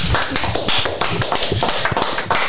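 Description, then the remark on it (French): A steady burst of applause from a group on a TV programme for a young junior municipal councillor, dense overlapping claps at an even, loud level with no pauses, filling the whole moment without any voices. “Bravo, on peut l'applaudir dans cette émission.”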